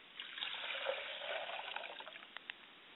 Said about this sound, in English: I pour libation to my Father's Spirit, and I say, I say.